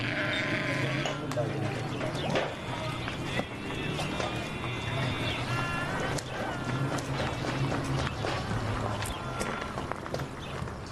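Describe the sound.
Sheep bleat repeatedly in wavering, nasal cries, several overlapping in a steady loud mix, while people talk and bustle in the background throughout.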